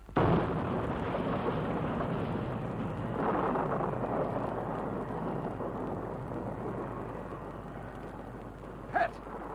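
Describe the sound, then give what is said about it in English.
A small plane whose fuel tanks have run dry crash-lands into trees in wild mountain country: a loud, sustained crashing roar of rumbling and splintering that swells early on, then settles, with one sharp crack just before the end. “We knew the crash was coming and you prepared for it.”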